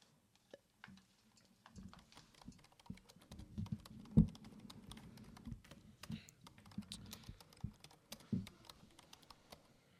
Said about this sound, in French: J'aime bien le son du clavier quand je joue aux jeux vidéo.